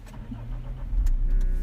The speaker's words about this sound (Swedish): Då startar jag bilen nu då. Vi kör. Ska vi se om den vill starta.